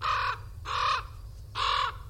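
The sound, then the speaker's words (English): An American crow caws three times, each call a harsh, nasal burst about a third of a second long, loud, spaced unevenly over a low background rumble. “Crows caw, while ravens croak.”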